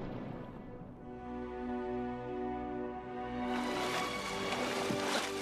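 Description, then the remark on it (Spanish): Water sloshes and splashes beside a small boat as a hand reaches into the water, grabs a sinking person's arm and pulls him up into the boat. The sound grows louder and more turbulent midway, while sustained orchestral tones hold steady underneath. “Una mano se introduce en el agua y agarra el brazo de Sam tirando de él hacia arriba”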